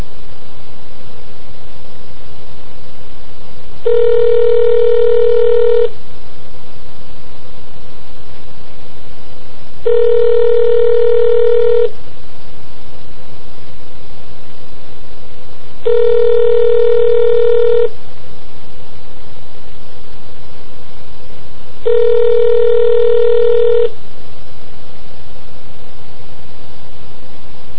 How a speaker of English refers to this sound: Thank you for calling Verizon Airphone, your fast, reliable, direct connection to travelers currently in flight. Your call is being routed to the aircraft. Your patience while connecting the call is appreciated. It's a very loud lady. Beep.